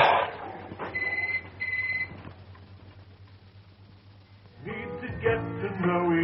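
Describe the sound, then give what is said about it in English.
A telephone rings in two short electronic bursts, clear over a steady low hum, followed by a stretch of background noise and then some muffled sound toward the end. “Go and answer the phone.”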